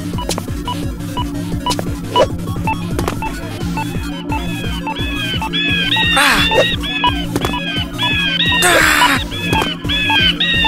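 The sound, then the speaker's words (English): A bird squawks repeatedly in short, harsh bursts over a steady low mechanical hum, with a couple of louder, broader squawks standing out near the middle and end. “But there is this darn stupid bird keeping distracting me.”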